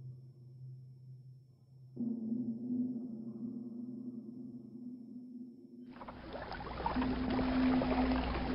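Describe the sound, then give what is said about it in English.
A low, steady drone builds in layers, then rushing, splashing water takes over for the last few seconds as oars churn a coracle through the water. No one speaks. “Found the oars. Excellent. Go, move. Heave! Ho!”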